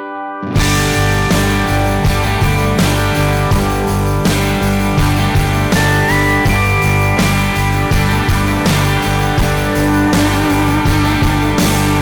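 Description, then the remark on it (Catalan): A country song plays loudly and steadily after a split-second of silence, its full band sound with strummed guitars and a driving beat filling the whole stretch. “El cinquè senzill d'aquest àlbum és aquesta cançó que escoltem ara mateix”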